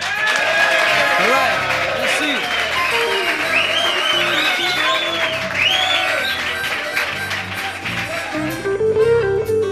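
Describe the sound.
A loud, sustained burst of audience applause and cheering for a music group about to perform, with whoops and shouting voices rising over the dense clapping for nearly ten seconds.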